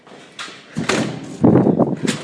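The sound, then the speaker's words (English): A door at the top of a stairway opens and then swings shut with a solid thud, two fairly loud bursts of creak and impact with a bit of rustling movement around them. “Out the door,”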